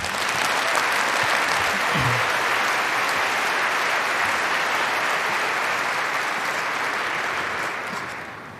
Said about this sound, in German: ich bitte euch um einen großen Applaus.